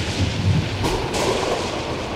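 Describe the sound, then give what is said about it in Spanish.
Thunder rumbles low and steady through a storm, with a broad wash of rain-like hiss and a couple of brighter cracks partway through, no voices present. “Todas las noches, entre los rayos y relámpagos, escuchamos una tonada que provenía de la luna.”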